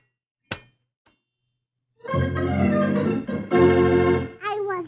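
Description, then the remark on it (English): Tinkerbell the fairy frantically flings herself against her glass jar prison, trying to escape: one sharp thunk and a faint tap, then a loud, frantic jangle of shimmering bell-like tones ending in quick rising glides. “She frantically hurls herself against her glass prison, trying to escape.”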